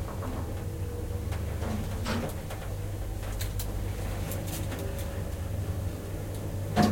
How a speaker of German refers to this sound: Der Aufzug stoppt. Sie zuckt zusammen, die Türen gehen auf, einen Schritt über die Schwelle.